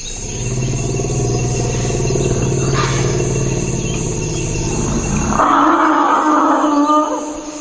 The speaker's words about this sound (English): Actually, this is audio recorded by a musicologist named Louis Sarno in the Central African Republic in April of 1994. It's in a swampy area that forest elephants go to in order to congregate and also to cool off.